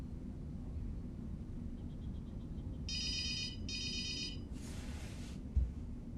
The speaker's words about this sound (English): She strides into Des's bedroom and sees the ringing phone.